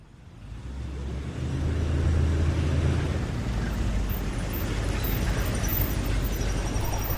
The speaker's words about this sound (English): Laura pulls up in her truck and parks.